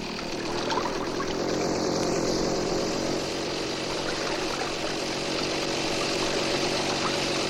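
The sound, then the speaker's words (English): A motorboat engine drones steadily, its low hum mixed with the constant wash and slap of choppy water against the hull as the boat is steered into a stiff breeze, with no voices. “All during the following morning, Sandy steers the boat into a stiff breeze, and progress against the choppy waves is painfully slow.”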